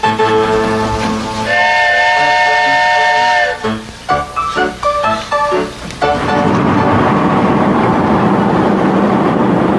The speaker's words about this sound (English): Our new engineer is the famous Casey Jones himself. How on earth do you know that? Because of the distinctive way he blows his engine's whistle. Listen.